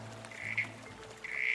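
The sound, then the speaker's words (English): Two short, buzzy calls of a small corroboree frog calling back in response to a call, one after the other with a brief gap, soft over a steady low background hum. “it's really difficult to see a small corroboree frog, but they happen to have this feature of liking to call back”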